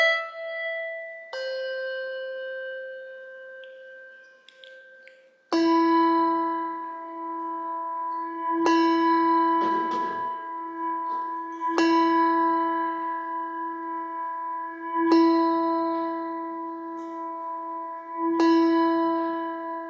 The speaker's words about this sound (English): as the light of Christ is brought in to illuminate our hearts, and as the bell is tolled, marking the beginning of our worship.